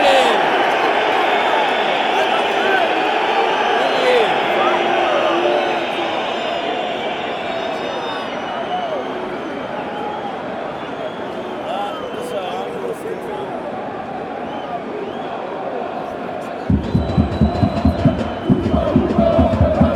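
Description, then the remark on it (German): A football stadium crowd of nearly 50,000 roars and jeers after half-time at the Hoffenheim goalkeeper's time-wasting, a sustained, loud wall of noise, with rhythmic, pulsing claps or chants breaking in near the end. “Das andauernde und ausufernde Zeitspiel trifft nicht bei allen Fußballfreunden auf Gegenliebe.”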